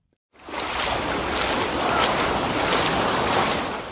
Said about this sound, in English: On golden sand, stretching across the North Sea, toddlers splash in the waves and families seek relief in the sea breeze.